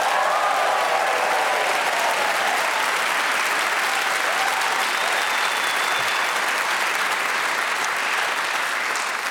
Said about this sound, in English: Now, time to introduce you to the four magnificently talented people who'll be playing Just a Minute this week. They are Giles Brandreth, Desiree Birch, Glenn Moore, and Lucy Porter. Why not cheer and go crazy for all four of them?